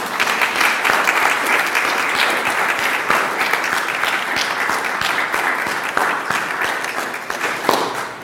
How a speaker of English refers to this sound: I'm going to embarrass all of you who serve on the vestry or who have served on the search committee. I want you to stand up where you are. Just stand where you're at, okay? Just stand there. I want everybody to give these people a round of applause.